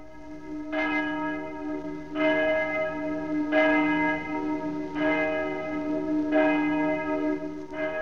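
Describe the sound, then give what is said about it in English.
The great bell of St. Paul's Cathedral tolls a requiem for the death of the King in a slow, steady rhythm, six resonant strokes about a second and a half apart, each ringing tone overlapping the next over a faint low rumble, with no voices. “The great bell of St. Paul's tolled its requiem, and the first royal funeral ever to be heard by a nation was solemnly observed.”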